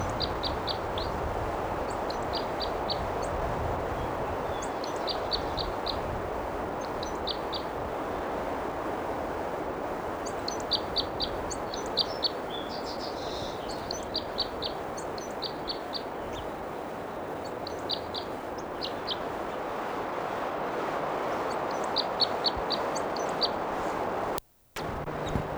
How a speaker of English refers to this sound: Stop. There's a bird still singing.